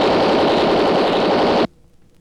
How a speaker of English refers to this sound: That machine gun won't do you any good, Race.